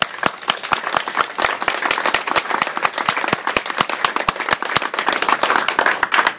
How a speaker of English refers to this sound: But I think that we all deserve to be applauded. So let's hear it.